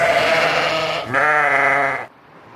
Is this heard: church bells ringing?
no